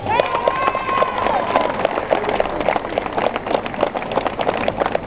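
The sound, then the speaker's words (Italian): An audience at an election campaign event for the 'Uniti per Calvi' list claps steadily and densely for about five seconds. The rapid, overlapping hand claps hold a fairly even loudness, with a brief tonal sound rising above them near the start. “Non vi fermate, potete continuare con l'applauso.”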